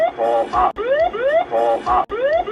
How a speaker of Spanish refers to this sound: Ese sonido significaba que el avión estaba peligrosamente cerca del suelo.